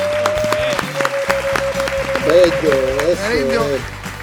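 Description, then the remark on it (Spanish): A crowd claps steadily for several seconds for the musicians of Combo Pimienta, broad dense applause with scattered whoops and cheers rising over it, while a sustained tone and some voices run underneath. “Así que un aplauso fuerte.”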